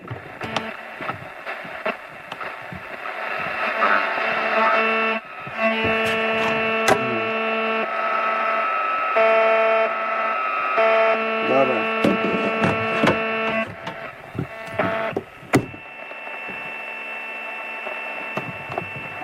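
Loud, continuous interference on the shortwave bands of a radio receiver being tuned, where a strong station is still picked up: a steady electrical buzz with layered humming tones that shift partway through, broken by sharp clicks and static crackles, with no voices.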